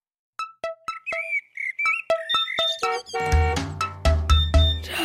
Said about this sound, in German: Mein Wecker. Früher Morgen, blödes Aufstehen.